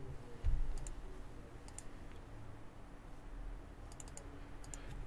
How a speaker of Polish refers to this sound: Klikam dwukrotnie na niego.